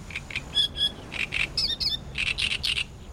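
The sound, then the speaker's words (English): A series of short, bright bird chirps repeating in quick bursts, some rising into higher whistled notes, over a soft steady background hiss with no one talking. “Like any expert traveler, birds know how to use their resources to make it to their destination.”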